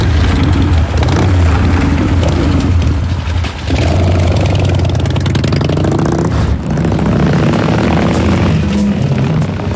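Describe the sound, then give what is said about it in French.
A police car's engine runs loud, a steady low rumble with a slight rev near the middle, and no one speaking over it. “Ah là, là c'est la voiture de police.”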